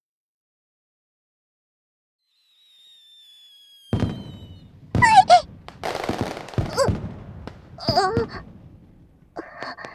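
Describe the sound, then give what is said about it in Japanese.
A thin whistle rises and then several fireworks boom and crackle in quick succession at the start of a fireworks display, fairly loud, with a brief murmur of a voice among the bursts. “花火、始まったみたい。”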